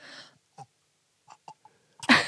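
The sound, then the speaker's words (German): A forced burp attempt: a breathy exhale, a few short throaty gulps and clicks, then a sudden harsh, raspy burst at the end that sounds strained rather than a clean belch. “So, kannst du rülpsen? Ja, wenn ich mir Mühe gebe.”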